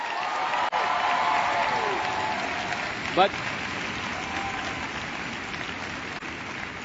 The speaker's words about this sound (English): New Attitude folks are supposed to really clap at that point.